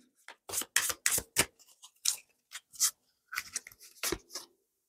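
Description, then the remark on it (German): Lenormand cards being shuffled by hand, a quick series of crisp, papery riffles and slaps in irregular bursts, fairly loud, with no voices. “Und dann nehme ich mal noch die Lenormand-Karten und mische nochmal.”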